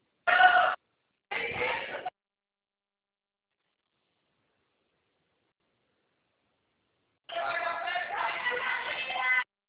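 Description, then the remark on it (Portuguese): Raised, shouting voices of people at a place where contracts are paid come through a phone line: two short bursts, a long silence, then a longer stretch of loud, overlapping yelling with no clear words. “Nossa, tá um barulho aqui. Contrato paga aqui, os pessoal fica gritando.”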